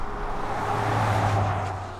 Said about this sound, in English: Eventually, the sound of fast-moving cars becomes audible. We're nearing the road that Dubinsky would be taking if he were driving.